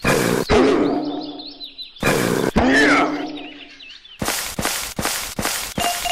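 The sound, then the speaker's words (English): Two loud growling animal roars from the Level 1 jungle practice stage of a video game, about two seconds apart, followed by a rapid run of five or six sharp cracking hits. The player attacks with the space bar on hearing an animal. No one speaks. “You hit the space bar to attack when you hear an animal.”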